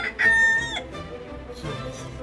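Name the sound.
rooster crowing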